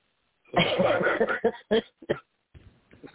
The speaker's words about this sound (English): Don't make people who are trying not to cough laugh.